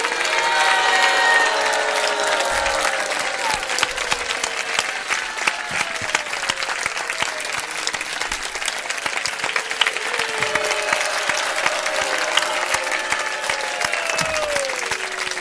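A crowd applauds steadily and loudly for about fifteen seconds, dense clapping with occasional cheers and a few voices rising above the sustained roar of hands.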